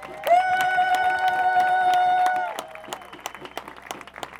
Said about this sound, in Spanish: ¡Aplauso por este histórico día!